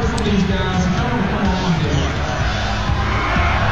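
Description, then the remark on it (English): A big crowd roars and cheers steadily, with many voices merging into a loud, continuous wall of sound carrying a rhythmic chant of "USA" within the din. “Do you hear the decibels from that crowd? I mean, we have to play it. USA chant.”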